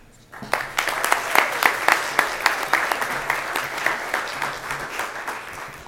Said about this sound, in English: And thank you guys so much for the audience and all the round of applause.